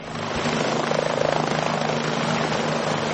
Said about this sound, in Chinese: 空中传来直升机旋翼发出阵阵带有节奏的音浪，又是一趟任务的结束。费尔法克斯一号安全地返回机库。